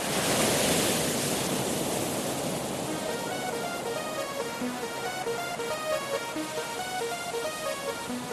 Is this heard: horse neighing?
no